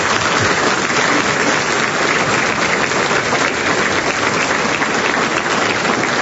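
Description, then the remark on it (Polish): Sustained applause from an audience welcoming Father Dr. Zdzisław Klawka as the university's new rector fills the whole stretch, a dense, steady wash of many hands clapping at an even loudness with no talking over it. “Można oklaskać.”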